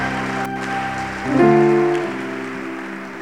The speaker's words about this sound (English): Please clap for him.